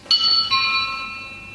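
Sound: doorbell ringing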